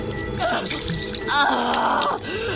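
Water from a pitcher splashes and gushes onto a woman's face, covering her nose and running down her neck, a steady wet rush lasting a couple of seconds, with faint voice-like moans rising and falling over it.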